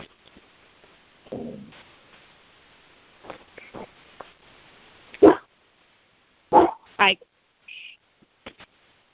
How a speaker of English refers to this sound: And I got to hear Spike's voice. I've never heard Spike before. He sounds like a big dog. He's a big boy.